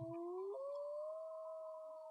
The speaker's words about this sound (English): Is that a wolf or someone's stomach growling? That's a wolf. A coyote. We've got so many coyotes around here now.